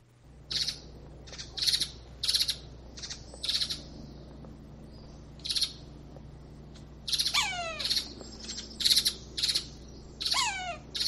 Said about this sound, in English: Does this sound familiar to you? Well, it's a woodpecker. One of them is, One of them is, but it's a sapsucker, I think.